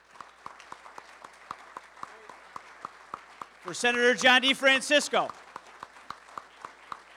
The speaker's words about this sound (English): Let's give a round of applause for Joe Holland.